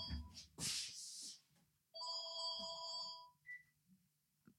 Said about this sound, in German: Das Telefon klingelt. Mein Telefon klingelt. Wer ruft denn jetzt an? Ich drück das mal weg.